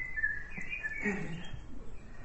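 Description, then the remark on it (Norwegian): Birds chirping softly, with a few short, thin tweets and whistles over a faint background hiss. No one speaks, and the calls sound gentle. “Og snart har vi fuglene også med oss. Kan vi få litt fugler?”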